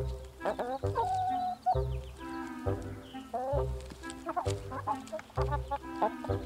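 Several backyard chickens in a Seattle suburb cluck and squawk in quick, overlapping bursts, lively, over a steady low rhythmic thump that runs underneath throughout.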